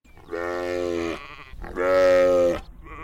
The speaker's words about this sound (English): What does that sound like? Sheep. That's right.